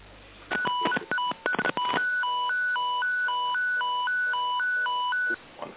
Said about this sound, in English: Someone's dealing in Morse code by the sound of it. I'm unfortunately not fluent in Morse, so I couldn't take that question.